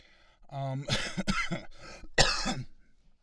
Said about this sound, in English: You know what's great about this? You got that sound in 3D of me coughing.